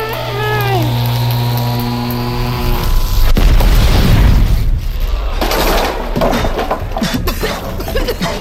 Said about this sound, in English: What the hell happened? That chair! It's exploded!